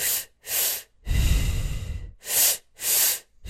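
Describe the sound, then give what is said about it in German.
Rhythmic breathing exercise: two quick, sharp inhales followed by one long, rushing exhale, then the double inhale begins again. Strong and airy, with no talking. “Also es ist immer so in zwei Zügen ein und in einem aus.”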